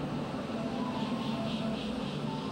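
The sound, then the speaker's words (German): A train rolls into a busy station at platform 1 on Christmas Eve and stops with squealing brakes: a steady, dense rumble and a thin, wavering high squeal running continuously over the short stretch. “Gerade fuhr ein Zug ein und blieb mit quietschenden Bremsen stehen.”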